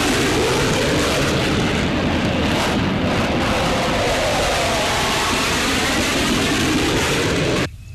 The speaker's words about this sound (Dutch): Binnen enkele minuten na de aanval van de mariniers op de trein, waarbij de laagvliegende straaljagers voor een schrik-effect zorgden, waren ook de eerste hulptroepen aanwezig.